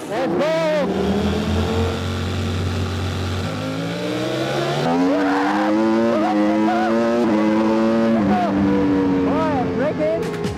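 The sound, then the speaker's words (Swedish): A race car's engine screams loudly and continuously, its pitch climbing and stepping up through gear changes as it speeds around a track where cars average about 180 km/h and reach about 335 km/h at top speed. “På den här banan håller bilarna en snittfart på 180 km i timmen.”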